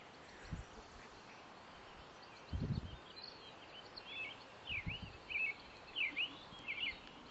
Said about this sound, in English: I'm not sure what kind of bird that is. Is it a robin